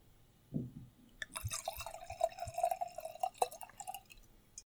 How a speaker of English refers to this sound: I'm going to open this up. All right, and let's pour this into the glass.